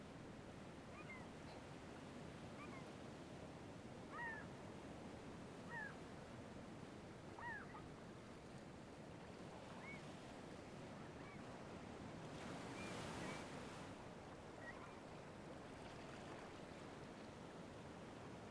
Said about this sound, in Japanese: 海猫、泣いてるね。